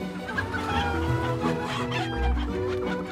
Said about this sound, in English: "Who are you?" ask the hens in the hen house. The stork tells them about his home, Africa. "He lies!" they cry.